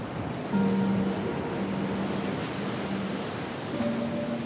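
Ocean waves wash steadily onto a sandy beach in a continuous broad roar, with a faint low droning tone fading in and out underneath; no voices.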